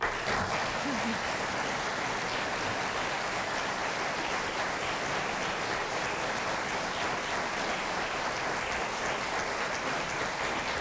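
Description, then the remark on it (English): Sustained applause from a studio audience welcoming the candidates to a debate, a dense, steady wash of clapping that holds at an even, fairly loud level for about eleven seconds without a break. “We've asked that our audience here in the studio will withhold applause throughout the debate, except for right now, as we welcome the candidates.”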